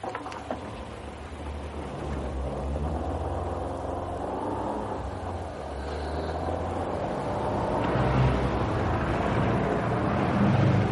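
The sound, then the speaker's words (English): A steady engine drone and road rumble from a car driving in Friday-night weekend traffic, with no talking. The noise holds even throughout and swells a little louder toward the end. “Pretty awful, isn't it? What? The traffic.”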